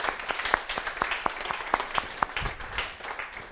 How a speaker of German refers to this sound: Gebt euch mal einen herzlichen Applaus, die hinten über uns immer schauen.